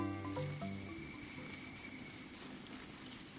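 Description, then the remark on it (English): Golden-crowned kinglet giving thin, silvery, very high-pitched calls from the forest in a rapid string of short bursts. A faint low tone fades out in the first second. “These thin, silvery calls coming from the forest belong to a survivor, the golden-crowned kinglet.”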